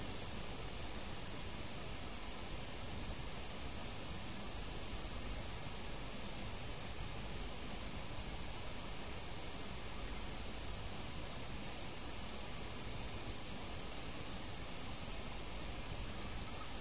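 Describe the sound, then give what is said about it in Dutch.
A soft, steady wash of water rolling back and forth, continuous, with a hushed hissing texture that never breaks. No voices are heard. “De zachtheid van het rollen van het water. Of het verplaatsen eigenlijk van water. Naar je oor. En dan weer terug.”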